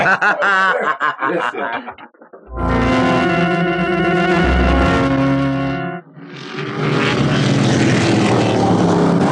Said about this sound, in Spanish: El auto guiado por Calimán corre camino abajo. Es un rápido descenso. ¡Cuánta curva!